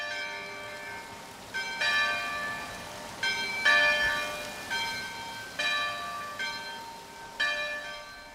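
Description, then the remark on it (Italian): Bells of the old chapel of the Madonna di Bertè above the village of Lumino ring out in a steady, overlapping peal, each stroke about every second with a long resonant hum, a stream a few metres away audible underneath. No voices present. “Le campane che stiamo ascoltando sono quelle dell'antica chiesetta della Madonna di Bertè, sopra il villaggio di Lumino, e il rumore che si sente in sottofondo è quello del torrente che passa a pochi metri.”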